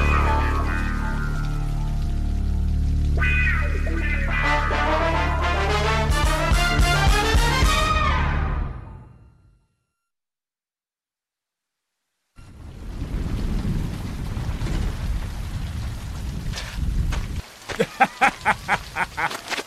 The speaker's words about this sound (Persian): آخه داره بارون میاد.